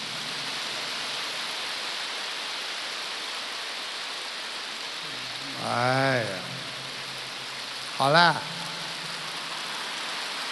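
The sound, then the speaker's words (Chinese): An audience keeps up dense, steady applause for the whole stretch, a continuous hiss of many hands clapping, while a man speaks two short phrases over it. “好像我跟你们要鼓掌一样，我没有跟你们要鼓掌，你看你们停不下来了，其实你们是锻炼。”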